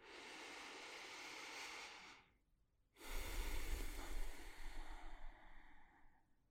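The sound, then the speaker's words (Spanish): A long, deep breath drawn in, a brief pause, then a slow, airy exhale that gradually fades, taken at the start of a meditation reflection. No one speaks. “Vamos a comenzar tomando una respiración profunda. Respira conmigo.”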